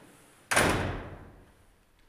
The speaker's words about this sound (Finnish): Ja avaan täältä oven. Ja tosiaan tämä ovi on niin matala, että me joudutaan kumartumaan, kun me mennään ovesta sisälle. Ja puinen ovi.